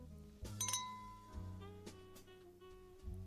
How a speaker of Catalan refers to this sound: Fet aquest efecte de so per donar-li el toc correcte. És un brindis de anem a celebrar-ho, no? Anem a celebrar-lo.